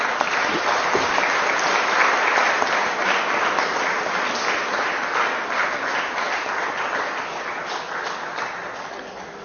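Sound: applause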